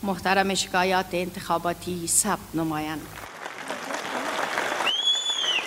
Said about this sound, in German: Die Anhänger von Präsident Ghani nahmen das Ergebnis mit großem Jubel auf.